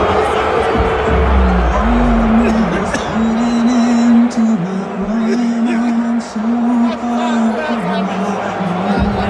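A stadium crowd booing from multiple portions of the stadium in a long, low, droning chorus that wavers slightly in pitch, loud and continuous across the whole stretch over a dense wash of crowd noise.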